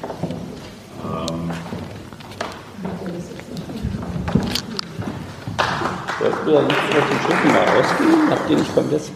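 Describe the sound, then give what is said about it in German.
People talk, then the technical crew starts clapping partway through, several pairs of hands swelling into steady, fairly loud applause that continues to the end, with voices underneath. “Die Technik klatscht dann auch sonst.”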